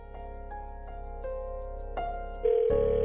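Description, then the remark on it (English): A telephone rings on an outgoing call placed by the show with Jen and Truda on KC1021 radio, heard as steady electronic tones through the line that shift pitch partway through and grow slightly louder, with no voices. “All right, phone's ringing.”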